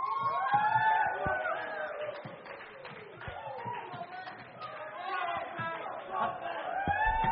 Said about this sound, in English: Go on, get more cheering.